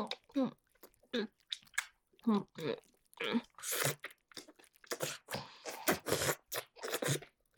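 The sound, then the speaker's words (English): Wet, sloppy mouth sucking and slurping noises of a person sucking on someone while drooling repeat in quick, uneven bursts, fairly loud, following a stretch of breathy, wordless vocal sounds. “Just sucking you like my life depends on it.”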